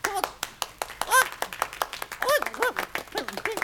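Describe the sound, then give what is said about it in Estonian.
An audience claps in a steady, scattered patter of sharp hand claps, with a few raised voices calling out over the applause. “Nad siit nüüd veel plaksutavad.”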